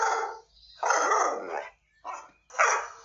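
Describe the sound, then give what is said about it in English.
Lucky, a dog on a walk in a park, barks frantically while suddenly shooting forward: four loud, harsh barks in quick succession with brief gaps between them and no other voices. “Without warning, Lucky shot forward, barking like a maniac, taking Clint with him.”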